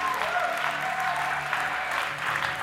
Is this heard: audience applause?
yes